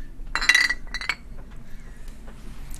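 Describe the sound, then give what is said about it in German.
Beer glasses clink together in a toast: a bright, ringing clash followed by a couple of lighter taps, with a low background hum and no talking. “Wir sind jetzt gleich da mit einem Bierli zum Wohl miteinander.”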